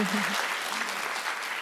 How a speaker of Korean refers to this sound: 박수 주세요.